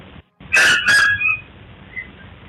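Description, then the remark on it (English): A dog yelps twice in quick succession, sharp and high-pitched as if in pain, the cries trailing off into a thin whine over a steady low hiss. “And I'll stop it right there because when I heard that sound, I thought a dog's being hurt.”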